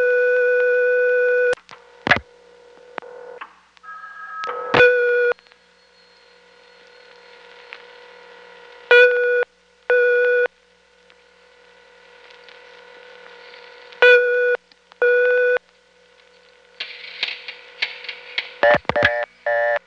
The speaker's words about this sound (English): You're supposed to hang up your phone, and then it will ring 1, 2, or 3 times to give you the result of the test. And then once you pick up the phone, the rings change to beeps. This is a very bizarre test line, if I may say so myself.